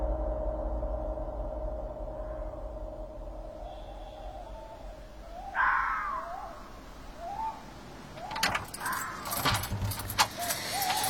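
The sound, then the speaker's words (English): A bunch of borrowed keys, used to get people inside, jangles in bright, rattling bursts over the last few seconds, after a stretch of steady low rumble like an idling engine. “Borrowing the keys to get us in.”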